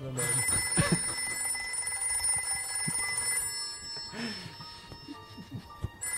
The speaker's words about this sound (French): Je reconnais le téléphone.